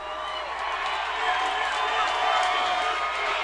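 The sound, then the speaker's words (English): An audience applauds and cheers for a rapper in a steady, dense wash of clapping and shouting voices, holding at a fairly even loudness for the whole stretch. “Give him a round of applause, y'all.”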